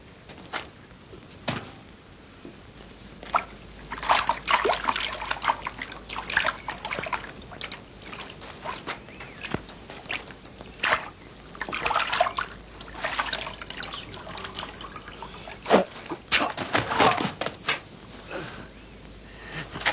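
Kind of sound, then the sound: nature, water trickling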